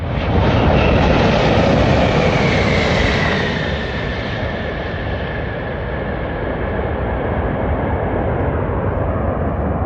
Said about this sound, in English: Out here on the taxiway at Denver International Airport, we just watched the biggest passenger jet in the world land with the Rocky Mountains behind them. The Lufthansa Airbus A380 touched down after a nonstop flight from Munich, Germany.